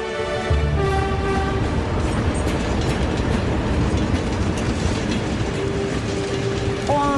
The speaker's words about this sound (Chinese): 因为临时调控，火车甩站而过。